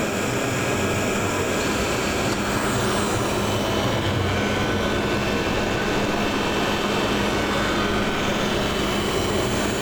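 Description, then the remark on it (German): A robot vacuum cleaner in an apartment, started by a voice command through hearing aids, runs with its motor giving a loud, continuous whirring drone with a hissy, airy rush, unchanging for the whole stretch and with no voices. “So, und mein Staubsaugerroboter fährt los.”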